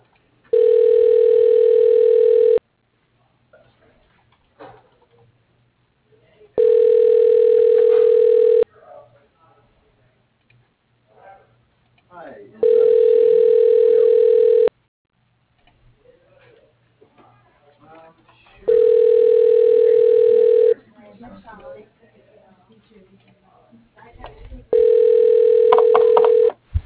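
A telephone ringback tone purrs five times in a steady pattern, each two-second ring followed by about four seconds of near-silence with faint line noise, on a call placed through a company's dial-by-name directory to an office at Paper Pack Industries.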